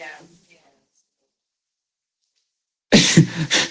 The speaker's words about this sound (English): Bless you.